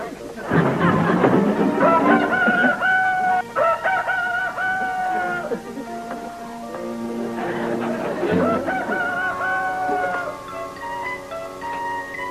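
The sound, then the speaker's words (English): A rooster crows loudly, two long drawn-out cock-a-doodle-doos separated by a short pause, with some clucking mixed in. “You talked me into saving that silly rooster's life, didn't you?”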